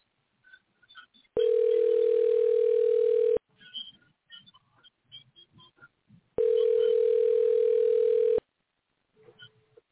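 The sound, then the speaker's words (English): A telephone tone sounds while a call is placed on the Eddie Jones Radio Talk Show: two loud, steady, mid-pitched buzzes about two seconds each, separated by a gap filled with faint clicks and rustles. “We make phone calls on the show.”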